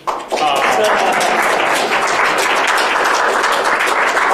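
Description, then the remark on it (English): An audience bursts into steady applause for the speaker of a talk, a dense wash of many hands clapping at once that starts abruptly and stays loud and even throughout, with faint voices mixed underneath. “Anyway, can you applaud for me anyway?”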